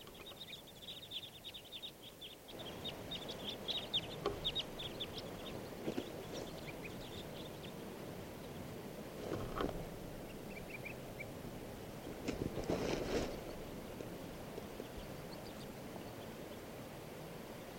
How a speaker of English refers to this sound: Recording, here's a huge flock of crossbills. 25 birds. Come on!